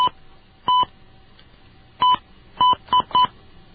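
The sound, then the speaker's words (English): A quick sequence of touch-tone keypad beeps, about six short dual-pitched tones at uneven intervals with two closely paired near the end, over a faint steady hum and no speech, as a PIN or extension number is dialed on a phone line to call the Swedish embassy. “Please dial your PIN or extension number.”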